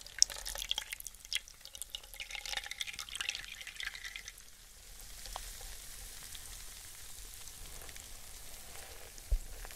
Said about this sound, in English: Now let's rinse the hair with clear water.